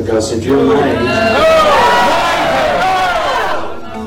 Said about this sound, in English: He mentioned about taking vaccines, and it's out of control. He was booed by his own supporters.